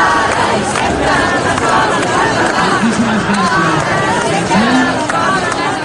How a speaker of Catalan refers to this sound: Unes 35.000 persones han manifestat pel centre de Barcelona contra la sentència que obliga a fer el 25% de les classes en castellà.